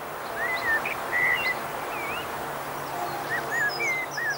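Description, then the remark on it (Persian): Redstart song at Saadabad palace in Tehran, from birds with brick-red underparts, black cheeks and throat and a red tail: several short, thin whistled phrases and chirps scattered across a few seconds, over a steady rushing background noise of the river running through the palace grounds. “خانواده دمسرخ‌های سعدآباد بزرگ بودند.”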